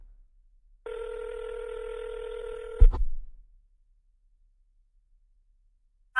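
A steady, buzzy telephone tone holds for about two seconds, then cuts off with a low clunk like a handset being set down, followed by silence and a brief sound at the end.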